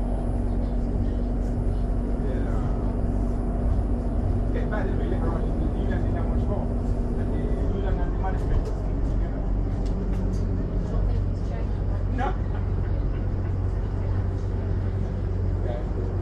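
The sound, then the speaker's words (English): A bus engine rumbles steadily, its low hum shifting partway through as the bus pulls off and drives away, with scattered clicks and street noise over a constant traffic roar. “And I just record it leaving.”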